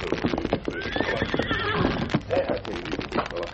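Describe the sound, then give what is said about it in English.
A paint horse named Scout whinnies in a drawn-out, wavering call while its hooves clip-clop steadily, the clattering steps continuing after the neigh fades. “He found the Indian squatting beside his paint horse scout.”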